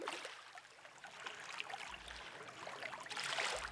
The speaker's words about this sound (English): This water is maybe the dirtiest water I've ever been in. It's literally parts of dead birds, all sorts of nastiness everywhere you step.